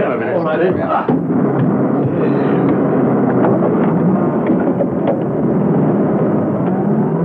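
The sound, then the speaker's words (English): Several vans, carrying masked men and passing as a fleet of window-cleaning vans, rumble into life and keep up a loud, steady, rough drone as they pull away, with muffled voices briefly audible at the start. “They boarded them, the engines started up, and the vans pulled off.”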